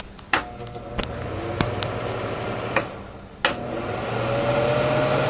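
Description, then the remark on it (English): A kitchen range hood fan with a light, mounted above the stove, drones steadily with a low hum, punctuated by several sharp switch clicks, and its whoosh grows slightly louder toward the end as the setting changes. “Range hood with a light and a fan.”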